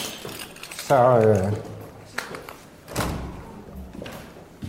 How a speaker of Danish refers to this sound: Se, nu må vi prøve, hvordan vores nyslåede lås virker.